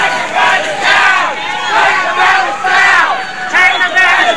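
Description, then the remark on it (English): About 500 pro-gay marriage protesters at a counter-rally against a prayer rally in Brisbane chant in loud, rhythmic unison, voices rising and falling in repeated phrases with shouting over a steady roar of many people. “About 500 chanting pro-gay marriage protesters outnumber the 12 attendees of the prayer rally in Brisbane, causing them and the infamous truck to retreat.”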